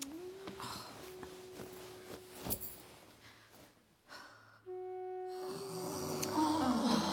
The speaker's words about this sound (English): Snoring so loudly. Huh? Turn onto your side. The rest of us need to sleep.